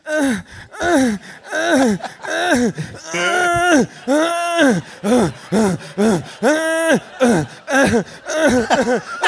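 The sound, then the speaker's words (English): A loud voice mimics a secret agent's heavy panting and whimpering in a slow-motion film scene, a rapid string of breathy, pitched gasps and moans that rise and fall in steady rhythm for several seconds without words. “And the only thing you hear is his heartbeat and his aggressively, increasingly more and more sexual panting.”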